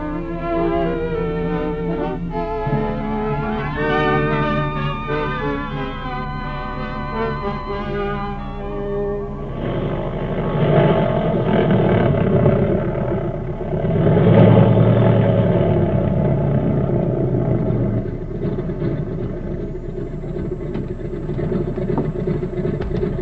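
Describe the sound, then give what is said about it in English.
A propeller airplane engine runs steadily, first a droning harmonic hum that then swells into a louder, rougher roar with rattling noise, continuous throughout. “You can board the plane now if you want to.”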